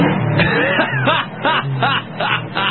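A mobile phone ringtone plays, a voice imitating a revving Swedish moped in quick, rhythmic bursts with swooping pitch over a steady electronic beat, somewhat thin and band-limited.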